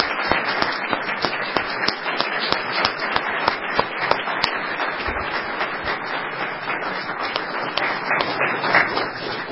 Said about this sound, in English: And let's just give a round of applause to all who participated and helped today.